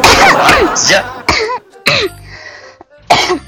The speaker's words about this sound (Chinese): 等会儿，我先咳嗽两声。